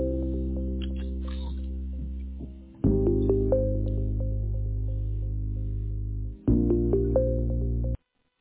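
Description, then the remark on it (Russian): A telephone ringback tone sounds while a call to a dispatcher connects: long, steady electronic buzzing tones separated by brief gaps, fairly loud, with no one speaking. “Который раз звонишь, никуда не дозвониться.”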